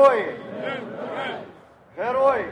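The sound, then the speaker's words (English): A large crowd in Independence Square, Kyiv, Ukraine, chants "Heroes don't die" in unison after a public funeral for a demonstrator, voices rising together in a sustained phrase, falling briefly quiet, then surging back loudly for the next line of the chant. “Heroes don't die was the chant after a public funeral for one of the estimated 88 demonstrators who died when riot police, backed by snipers, stormed the square last week.”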